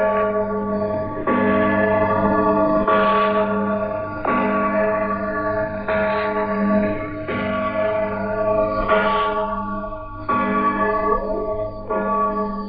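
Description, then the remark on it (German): Church bells peal continuously, several overlapping strikes every second or so with long ringing overtones, loud and full, with no voices. “Mit diesem Glockengeläut wechseln wir zur Radio DDR und ins Jahr 1957.”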